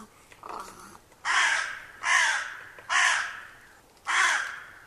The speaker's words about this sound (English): Yeah, that's a hooded crow, according to the poster. That's a hooded crow. There you go.